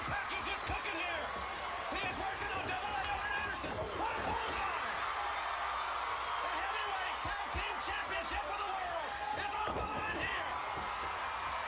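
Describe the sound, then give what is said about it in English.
A large wrestling arena crowd roars and cheers steadily, with whoops, yells and sharp slamming impacts punctuating the dense, continuous noise of the audience. “Those crowds live.”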